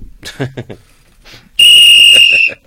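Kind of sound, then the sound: signal or alarm, whistle blown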